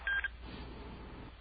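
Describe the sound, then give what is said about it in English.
A short burst of telephone keypad tones on a caller's line, a few quick beeps in a row lasting a fraction of a second, followed by a low, muffled phone-line hiss. “He was beeping.”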